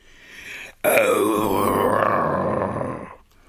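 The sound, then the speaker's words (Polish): A low, rumbling growl from a father wolf starts abruptly and holds steady for about two seconds before fading, a soft throaty snarl, with no talking over it. “Zawarczał cicho ojciec wilk.”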